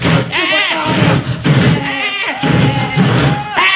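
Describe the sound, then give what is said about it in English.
Loud voices imitate goats during a stage performance before an audience, letting out several wavering, nasal bleats in quick succession, one after another for a few seconds, with a low rumbling crowd noise underneath. “No, fear not, we're not goats.”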